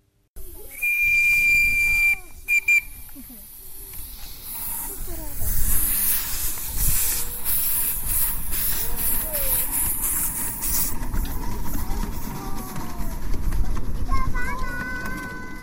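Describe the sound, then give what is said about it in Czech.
A miniature steam locomotive on a garden railway in Skalsko, Czech Republic, gives a sharp, steady whistle blast in cold spring air, then chuffs and hisses steam as it approaches, the rumbling puffs growing louder with another short whistle near the end. “Chladný jarní vzduch protne hlasité pískání blížící se lokomotivy.”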